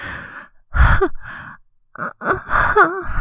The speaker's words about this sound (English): I gasp and whimper against your ear.